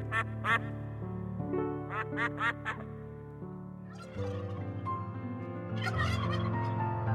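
Several quick bursts of turkey gobbling ring out over a steady musical backing of sustained tones, with a busier, louder stretch of sound near the end.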